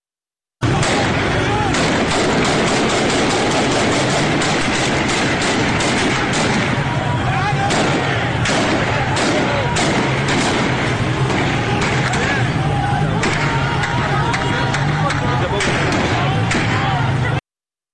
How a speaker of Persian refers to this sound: همینطور که مشخص است تیراندازی شدیده. در اهواز هم ویدیوها صدای تیراندازی رگباری در ویدیوها شنیده میشه ولی مردم در خیابون ایستادن و با وجود این تیراندازی فرار نمی کنن.